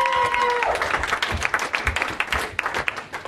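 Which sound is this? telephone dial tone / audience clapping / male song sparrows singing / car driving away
audience clapping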